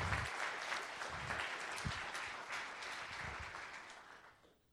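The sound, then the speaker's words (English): A crowd applauds four high school graduates steadily for several seconds, a dense wash of many hands clapping at once with a few whoops, then the clapping gradually thins and fades out at the end. “So, how about one more last round of applause while they're here?”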